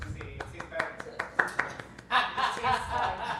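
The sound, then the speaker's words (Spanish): Hands clap in a quick, uneven series of sharp smacks, then swell into a denser burst like audience applause, showing how Venezuelan comedy audiences applaud a good joke. Some chuckling voices are mixed in, moderately loud. “Por lo menos los públicos venezolanos, a veces, cuando hay un buen chiste, ellos aplauden, hacen...”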